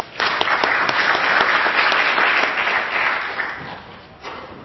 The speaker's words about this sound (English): Please, round of applause, welcome them.